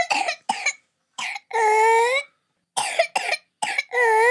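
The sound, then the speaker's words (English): Two bouts of whooping cough (pertussis), each a few sharp, hacking coughs followed by a long, high-pitched, wheezy whoop as breath is drawn in. Fairly loud, with no talking. “And it gets the name whoop from children, younger children, that have that kind of a sound, a whooping sound, at the end of their cough.”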